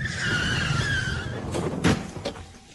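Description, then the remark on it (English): A car skids to a stop in a town square as two people walk across it, with a loud, drawn-out squeal of tires over rumbling road noise, followed by a sharp thump or two as it halts. “Watch out for that car!”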